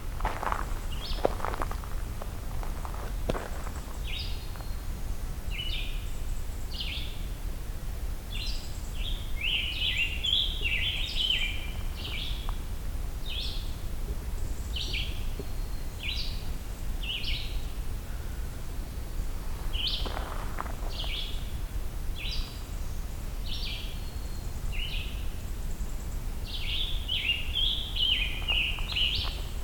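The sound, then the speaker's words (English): Thin, buzzy notes repeat in short bursts throughout, a warbler buzzing and making other vocalizations rather than song, over steady outdoor ambience with occasional rustling or footstep-like thuds. “Some kind of warbler doing some buzzing and other vocalizations, not really song.”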